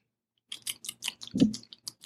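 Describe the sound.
A mouth imitates the wet, squishy plapping of a heavily lubricated butt: a quick, irregular run of about ten smacking squelches lasting under two seconds, with one heavier, deeper squish near the end. No talking.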